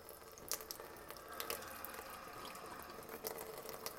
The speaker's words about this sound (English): Ooh, water's getting hot. I think I like that though.